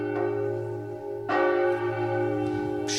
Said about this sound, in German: wo er die zu schöne Glocke durchbohrte und tiefer und schwerer stimmte.